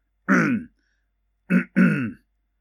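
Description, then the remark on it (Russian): A loud, voiced throat clearing: one long rasping burst, a short pause, then two quick gruff hems in succession, with no talking around them. “Оглушительно кашлянул Кэп, прочищая горло.”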